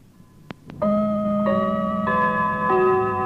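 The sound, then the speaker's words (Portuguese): A Rádio Moçambique time signal marking exactly 10 o'clock in Mozambique: two crisp clock ticks, then a loud, steady electronic chime that steps through several sustained tones, with no voices. “Acerte o seu relógio. CIR Motors, sempre na hora certa. Exatamente 10 horas em Moçambique.”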